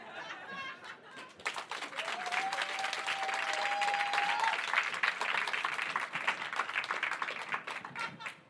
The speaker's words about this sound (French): Hop ! On applaudit bien fort cette femme qu'on a choisie complètement au hasard, que personne ne connaît.